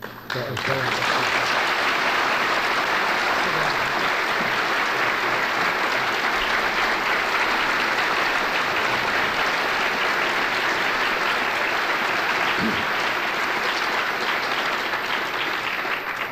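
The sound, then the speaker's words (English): Sustained audience applause at an Institute presentation, thanking the speaker: a dense wash of many hands clapping steadily at a loud, even level for the whole stretch with no talking over it. “Chairman, the Institute has already interrupted this presentation with most Institute unlike applause at many times.”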